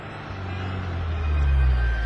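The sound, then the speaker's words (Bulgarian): A car engine hums low and steady as the vehicle drives along to catch up with someone, the rumble swelling slightly louder toward the end, with no voices. “Скочих в колата и успях да я настигна почти пред жилището на Рив.”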